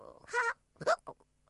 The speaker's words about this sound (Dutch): heeft de hik. Oh jee, hoe kom je van de hik af?